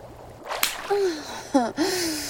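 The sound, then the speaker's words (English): A sharp slap of a hand on bare breasts, followed by breathy vocal gasps, then a second quick slap and another gasp. “Slap my tits again. Harder this time.”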